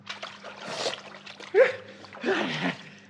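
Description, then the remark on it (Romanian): Water splashes and sloshes in a few bursting surges as someone enters a cauldron of boiling water, with a low steady hum running underneath throughout. “Acum intră în cazanul cu apă în clocotit.”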